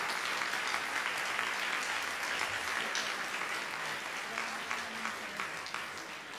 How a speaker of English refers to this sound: I would like people to please give her a round of applause here.